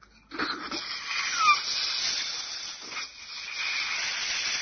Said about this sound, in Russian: Задание будет такое. Сделать один большой вдох. И сразу на одном выдохе надуть большой шарик.